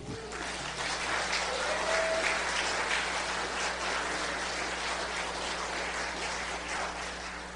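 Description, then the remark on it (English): An audience claps steadily for several seconds after an associate pastor is installed by Fellowship Presbytery, a dense, even wash of applause that holds its level throughout without any talking over it. “So you can applaud.”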